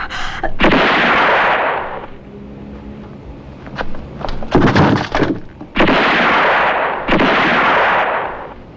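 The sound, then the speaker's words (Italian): Heavy gunfire: loud blasts with sharp cracks that roll into long roaring tails, separated by a rattle of quicker snapping shots in the middle, with no voices. “Avanti, via, non esitare, spara!”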